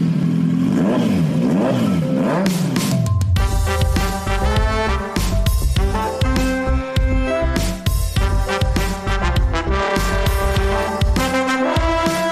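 A motorcycle engine revs up in rising and falling bursts, then a loud, punchy music jingle with strong beats kicks in and carries on to the end, with no talking.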